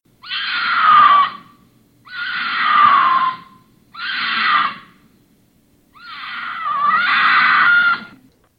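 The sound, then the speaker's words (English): A female wild cat's mating scream, calling in mates: four loud, harsh wailing cries in a row, each sliding downward in pitch, the last one longer and wavering, with no talking. “Well, that call is actually the female calling in mates.”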